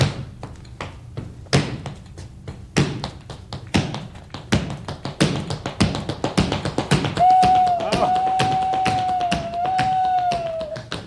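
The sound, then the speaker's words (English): Tap dancing steps imitate a train: sharp taps begin sparse and slow, then quicken into a dense chugging rhythm, joined midway by a steady, wavering whistle-like tone over the continuing taps. “Yeah, you can really express your anger with tap dancing.”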